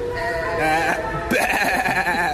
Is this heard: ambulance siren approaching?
no